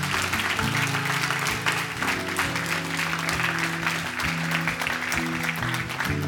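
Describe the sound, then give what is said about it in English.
Steady, dense hand clapping from a group at a church service runs throughout, moderately loud, over sustained low keyboard or organ chords that shift every second or so. No one speaks. “Somebody's just clapping.”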